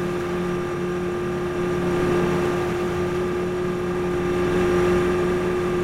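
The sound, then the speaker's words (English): A motorboat engine drones steadily with a low, even hum and a persistent tonal whine, holding a constant loud level throughout with no voices, as the boat carrying rescued plane-crash survivors heads across the ocean for shore. “As we headed for shore, the man who rescued us passed me a plastic water bottle.”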